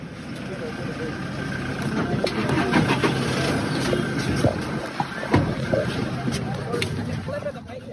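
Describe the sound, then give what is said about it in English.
Steady vehicle engines rumble and drone together with occasional clanks and knocks as a convoy of around 17 vehicles leaves a hotel in the late afternoon, just before sunset, while indistinct voices sound faintly in the background. “In total, around 17 vehicles left the Amarula Hotel in a convoy late afternoon on Friday, the 26th of March, just before the sun began to set.”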